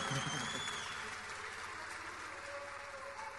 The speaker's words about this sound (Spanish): Hay que admitirlo. Un aplauso, por favor.